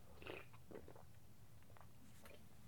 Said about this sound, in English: So on that note, I'll take a little sip.